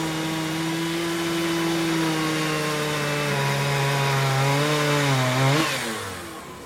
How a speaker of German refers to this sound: Und dann saßen wir da und haben die Kettensägen gehört und haben irgendwie gedacht, wir werden wahnsinnig.